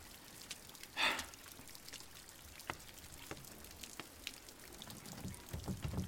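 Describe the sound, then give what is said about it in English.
Soft, steady rain falls outdoors in the dark, with scattered drips and light taps against a hushed background, a brief louder splash near the start and a low rumble creeping in at the end. “and don't talk about the Ring when it's outside and we're dark and it's raining and he probably has a well.”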